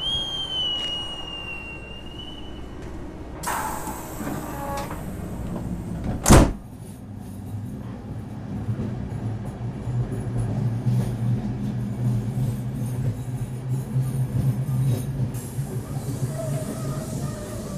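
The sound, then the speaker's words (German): A sleeper train door shuts with a single loud thud after a brief screech, then a low rumble slowly builds as the double-decker sleeper train pulls away and rolls steadily on, with no voices. “Vorsicht an den Türen und bei der Abfahrt des Fluges.”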